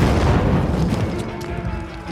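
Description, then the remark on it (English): A loud, rumbling blast with heavy low-end boom that stays dense and roaring for about two seconds, a lit grenade exploding among a mass of men at the base of a bastion, with debris and chaos churning through it. “It exploded, and a chorus of screams erupted.”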